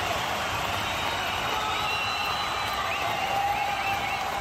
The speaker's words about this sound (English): There are 50,000 screaming fans here. I said, somebody scream!